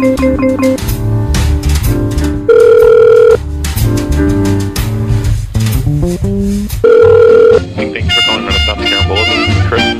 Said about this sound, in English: A second time I called. The first time it just kept ringing. I apologize for that. What were you doing? I'm sorry? What were you doing? I didn't hear it ringing.